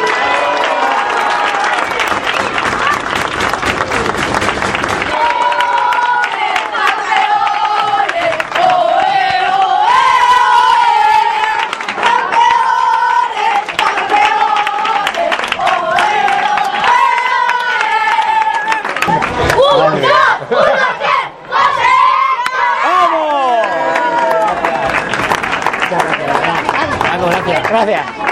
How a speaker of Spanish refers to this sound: Para terminar, el equipo campeón de la categoría de cuarto de primaria, el colegio José Lloret. Un gran aplauso para ellos.